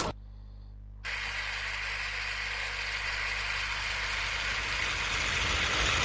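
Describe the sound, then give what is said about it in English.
A toy game's electric car engine effect: a low electronic hum for a moment, then a loud, steady whirring roar that swells slightly and keeps running, with no voices. “Please select a car. Lego. Light car. Electric car.”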